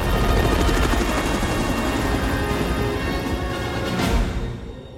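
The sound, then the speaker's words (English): A helicopter's loud, steady rotor chop and engine roar fill the scene as it arcs round and flies over a ridge of mountains, then begin to fade slightly at the end as it moves away. No voices are heard. “The chopper arcs round and flies over a ridge of mountains until it disappears within the dazzling light of the sun.”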